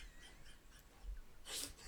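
breathing

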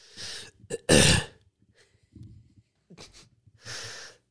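cough and throat clearing

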